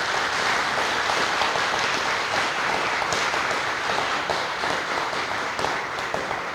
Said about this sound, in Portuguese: Palmas.